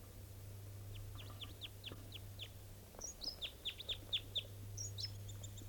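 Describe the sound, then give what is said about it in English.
A type 2 bird's song phrase, given in flight as it approached: a rapid series of sharp, descending high-pitched notes in two bursts, with a few higher whistled tones, over a steady low hum and no talking. “That was the song phrase in flight that it gave up on approach.”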